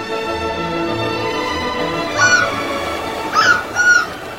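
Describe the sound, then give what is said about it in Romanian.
Three sharp, nasal seagull cries ring out over the sea in the second half, the last two close together, over a steady droning hum. Nobody speaks. “un pescăruș.”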